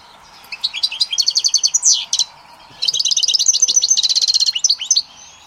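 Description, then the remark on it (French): A small caged bird sings a sweet, melodious song in two bursts of rapid, rhythmic trilled notes with a brief pause between them, clear with no voices. “Chaque oiseau a un chant particulier.”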